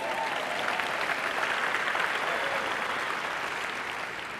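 An audience applauds a woman after her talk, a dense crackle of many hands clapping at an even, sustained loudness, tapering only slightly toward the end.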